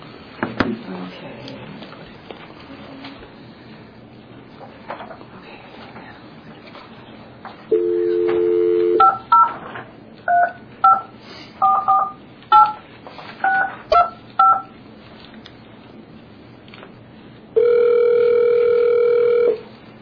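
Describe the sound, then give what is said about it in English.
Telephone dialing over a faint line hiss while reconnecting a call: a steady dial tone, then a quick, uneven run of about ten touch-tone beeps, followed by another long steady tone, all fairly loud. “we're going to try to connect you here again, okay?”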